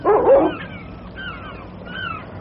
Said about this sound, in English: Seems to be more dogs than inhabitants.